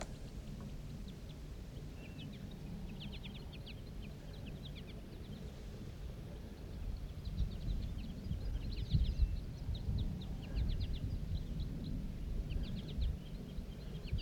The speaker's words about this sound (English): The flock took off. There's still one bird sitting up in the tree.